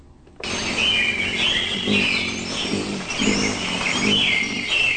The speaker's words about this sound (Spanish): Huele a tierra mojada, a fruta fresca y a gallinaza. Hace calor y los ruidos de los pájaros se escuchan sin cesar. Es el Banco de Semillas y el Laboratorio de Control Biológico los que se ubican en medio de árboles